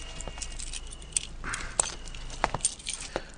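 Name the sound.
keys jangling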